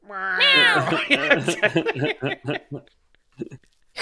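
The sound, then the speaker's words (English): A voice imitates a cat's meow with one drawn-out, wavering cry up close, then breaks into quick, choppy speech that fades into brief bursts of talk. “It was D's Nuts, and he's like a Maine Coon, like a big bushy cat.”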